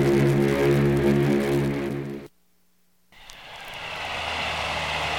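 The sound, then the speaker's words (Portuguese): A steady, loud engine drone with layered harmonics, like a propeller plane high in the sky in heavy fog, cuts out abruptly to near silence, then returns as a broader, hissing engine rumble. “Mas é bem possível que seja o avião que vocês estão procurando, o Espírito de St. Louis.”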